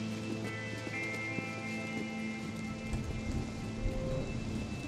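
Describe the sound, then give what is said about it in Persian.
Steady rain patters on hard surfaces throughout, a dense continuous hiss of drops with a faint low droning tone underneath and no voices. “زیر بارون هم نمیمونیم.”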